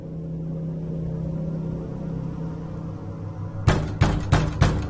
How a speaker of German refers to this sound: Durch Hämmern an ihrer Wohnungstür wurde sie aus dem Halbschlaf gerissen.